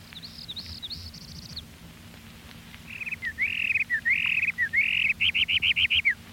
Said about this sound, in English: Parula warbler.